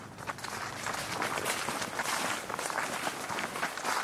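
Quick, steady footsteps of a man hurrying in flip-flops along a beaten path through the thicket of the Mayombe rainforest in Cabinda, with a dense rustling background of leaves and undergrowth throughout.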